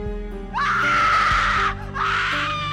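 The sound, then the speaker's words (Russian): A woman lets out two shrill, drawn-out, inhuman screams, loud, separated by a brief gasp-like pause, over a low droning background. “Нечеловеческие крики Моники звоном отдаются у вас в голове.”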